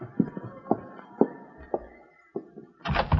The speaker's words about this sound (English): And don't open that door so wide, you'll blow the lamp out.